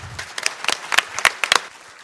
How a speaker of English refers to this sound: Let's give our actors a round of applause.